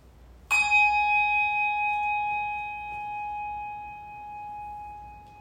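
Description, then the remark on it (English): A single church bell, rung before a worship service, strikes once, loud, then its clear metallic tone rings on and slowly fades over several seconds with no one speaking. “After the ringing of the bell and a moment of quiet, we'll begin our worship.”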